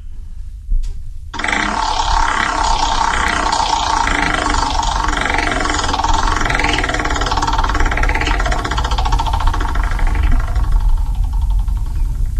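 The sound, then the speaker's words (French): A prize wheel is spun again to draw a Bresse chicken prize, with a loud, steady whirring rattle that pulses in a regular rhythm for about ten seconds, then breaks into separate clicks as it slows, with no talking. “on va vous demander de relancer la roue pour le poulet de Bresse.”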